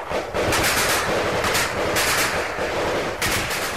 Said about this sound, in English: I can just about see the front of the platoon, and there was smoke coming off the guns as they started firing.